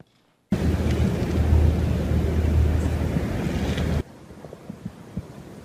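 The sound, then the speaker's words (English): A sudden loud, steady roar of a flash flood rushing down a dry riverbed in the Negev, with no rain or wind, bursts in after a brief silence, churning continuously for several seconds before dropping abruptly to a much quieter, fainter wash. “You don't hear the rain, don't hear the thunder, don't see the wind, but that water is going to go downhill, and you'll see the effects of water.”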